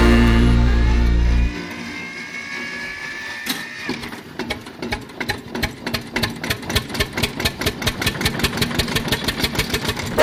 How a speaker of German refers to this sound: Der Lauf ist stinkt brutal, der Traktor hupft wie wild. Dann gibt der Bauer richtig Gas, der Sound, der macht dann Spaß.